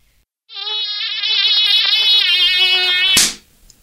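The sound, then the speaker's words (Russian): A loud, steady mosquito whine drones for nearly three seconds, its high pitch wavering slightly, then cuts off abruptly with a sharp crack, leaving quiet. “Но комаров почему-то от этого меньше не становится. Меня уже третий укусил.”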